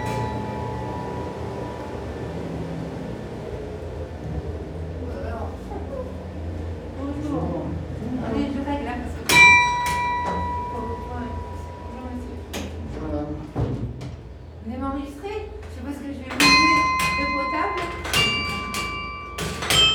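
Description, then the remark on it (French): Several loud, ringing church bell strikes with long metallic decays, spaced a few seconds apart, as the clapper is worked by hand up in the church bell tower, over people talking quietly. “Actionne le battant. Ah, mais si on verra, on voit les cloches.”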